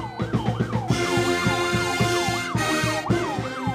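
Several police escort sirens wail together, their rising and falling tones repeating in quick cycles over a rumbling engine and traffic noise, loud, as SUVs pull up to deliver football coach Taggart.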